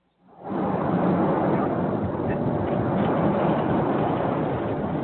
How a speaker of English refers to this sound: I'm hearing thunder out the window. So just to let you know.